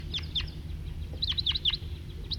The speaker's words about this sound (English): there are a whole bunch of crossbills around here and there, including one male perched and singing, pointed at him, on the top of a fir, and a few scattered individuals around, and that's the lone male. Here comes a big flock, about 10